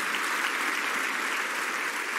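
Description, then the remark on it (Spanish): A crowd of people applauds steadily for Jesus, a dense, even wash of many hands clapping at once with no single claps standing out, sustained at a constant level throughout and no talking over it. “Un aplauso fuerte a Jesús, porque esta es una promesa preciosa.”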